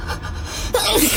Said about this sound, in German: Gesundheit.